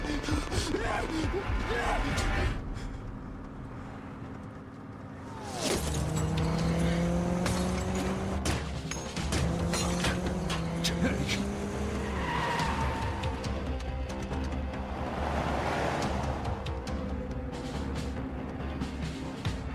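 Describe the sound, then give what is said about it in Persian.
A car roars at high speed with its tires screeching and skidding, engine tones rising and falling over nearly twenty seconds of loud, continuous driving noise. “بهت میگم اون ماشین لعنتی رو نگه دار.”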